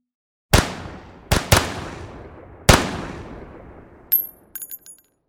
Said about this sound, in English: It didn't take long before shots were fired.